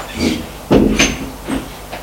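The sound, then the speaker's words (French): A brown wooden door in a gendarmerie building opens with a sharp, heavy clunk, followed by a few softer knocks and rustles as people come through. No one speaks. “Ils entrent.”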